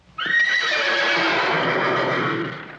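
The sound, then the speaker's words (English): A single loud horse whinny rises sharply and holds with a shrill, shaking tone for a couple of seconds before tapering off. No one speaks. “Every time Cloris Leachman says that, and the horses neigh.”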